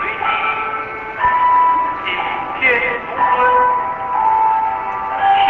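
Gentle, meditative music with long sustained melodic tones and chime-like notes, playing steadily at moderate volume throughout with a smooth, unhurried feel.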